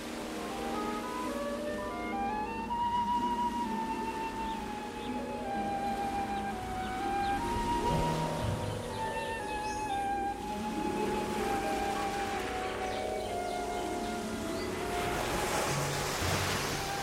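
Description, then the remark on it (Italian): A steady wash of sea waves at the shore in Grenada fills the background, with drawn-out tonal lines gliding above it like song or synth. No voices. “È tempo di fare il mio primo bagno da quando sono tornata in mare, questo mare.”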